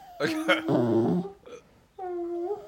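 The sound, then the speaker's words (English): A male dog gives a couple of sharp yips, then drawn-out, wavering whimpers, with a short pause before one last high whine. “Oh, he's a good boy. Are you a good baby doggy?”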